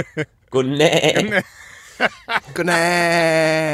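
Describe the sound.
A person mimics a goat, giving a few short quavering bleats followed by a long, sustained, wavering bleat, loud.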